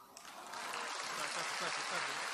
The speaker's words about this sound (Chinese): 看见了吗？大家都鼓掌了。